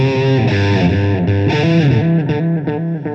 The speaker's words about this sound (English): And then, you know, with a bit of modulation and a bit of delay and a bit of reverb, and then I can go directly to.